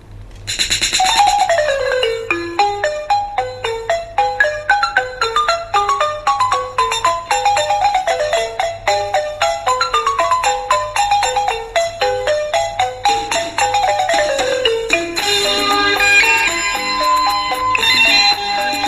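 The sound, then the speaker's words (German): A mobile phone ringtone plays loud, a bright electronic melody of repeating cascading note runs that keeps going for the whole stretch over a low steady hum, with no one speaking. “schon wieder am Telefon”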